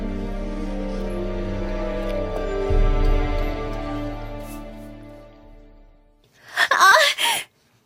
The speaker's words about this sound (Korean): 갑자기 크리스틴의 비명소리가 들리더니 이번에는 에릭의 목소리가 들려왔다.